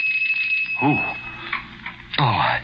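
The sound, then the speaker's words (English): A steady, high-pitched doorbell buzz rings continuously for about a second and a half, with a voice briefly speaking over it and again afterward. “The doorbell. Oh, it couldn't be at this hour.”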